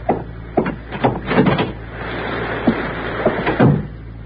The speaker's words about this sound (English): Go right out through that door into the rain. Once you're outside, close the door behind you.